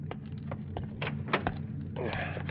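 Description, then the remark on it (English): A car door thumps as a hitchhiker climbs back into the car, with a few clunks and fabric rustling over a steady low engine hum. “Joe comes back and climbs into the car”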